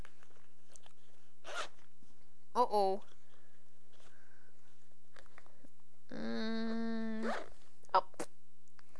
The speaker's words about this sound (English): Here, you can play with the zipper.